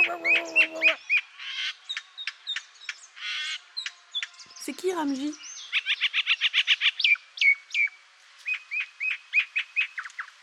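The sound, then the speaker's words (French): Rapid, bright chirps and tweets of a common myna repeat in quick bursts throughout, fairly loud, with a short spoken question near the start and a brief harsher call midway. “C'est l'oiseau de ma vie, il n'est plus tout jeune.”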